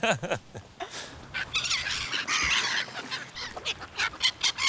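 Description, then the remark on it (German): A person squawks in a string of shrill, harsh gull-like cries, imitating seagull calls with their voice, loud, the calls rising and breaking over a few seconds. “Aber du sprichst ja perfekt Möwisch, da bin ich neidisch.”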